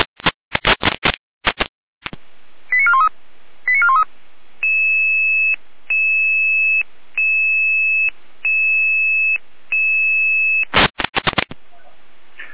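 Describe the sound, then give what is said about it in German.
Emergency dispatch alert tones over a radio channel in Jena: bursts of static crackle, a few quick chirps, then a steady two-tone signal pulsing on and off about five times before more crackle. “Jena mit Alarmierung.”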